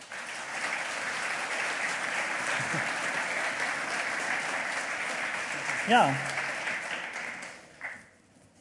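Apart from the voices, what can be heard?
audience applause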